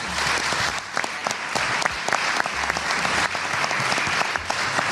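Steady applause from an audience, a dense crackle of many hands clapping at an even, sustained loudness for several seconds with no voices rising above it.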